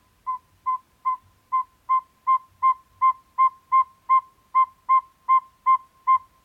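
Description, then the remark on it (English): A small owl gives a long, steady series of evenly spaced, whistled toot notes, about two per second, clear against a quiet background, somewhat like a distant beeping alarm. “high-pitched toot, toot, toot call, reminiscent of a distant beeping alarm.”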